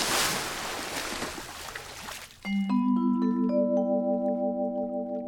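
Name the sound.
car plunging into water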